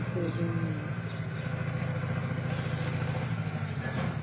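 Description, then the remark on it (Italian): A steady engine rumble drones throughout, with a low, clattering motor tone like motorcycles or vehicles going by, fairly loud and continuous for a few seconds. “Senti, si sente passamotori.”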